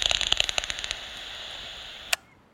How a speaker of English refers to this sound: So we've heard the pipistrels clicking there. They've got a nice rapid beat.